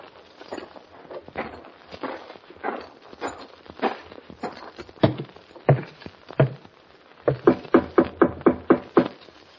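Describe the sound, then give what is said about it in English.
Irregular clopping of horse hooves and shuffling thuds as the horse Topper is hitched to a rail, then a steady run of about eight firm footsteps striking wooden boards as a man walks up to Cy Ottoman's door, each sharp and loud, with no voices. “There was a worried look on Hoppy's face as he hitched Topper to the rail and walked up to Cy Ottoman's door.”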